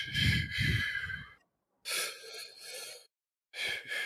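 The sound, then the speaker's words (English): A deliberate three-part breathing exercise: three audible breaths in sequence, into the belly, the solar plexus area, then up into the shoulders; the first deep and full, the next two airier and hissing, separated by short silent pauses, with no talking. “Now, the three-part breath is what I do every morning where you're breathing into your belly, up into your lungs.”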